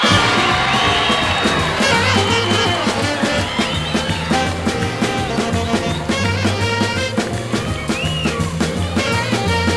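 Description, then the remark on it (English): A large audience applauds and cheers loudly and continuously to welcome a blues singer, with whoops rising above the steady clapping, while a band seems to play underneath. “Ladies and gentlemen, how about a nice warm round of applause to welcome the world's greatest blues singer, the king of the blues,”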